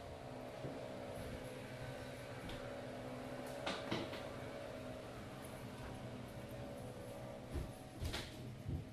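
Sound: door being closed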